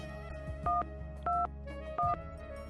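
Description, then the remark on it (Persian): Three short two-pitch keypad beeps sound one after another at a steady pace as a small boy standing on a drinks crate dials a phone number on a shop telephone, clear over a low background hum with no one speaking. “جعبه نوشابه را به سمت تلفن هل داد و بر روی جعبه رفت تا دستش به دکمه های تلفن برسد و شروع کرد به گرفتن شماره.”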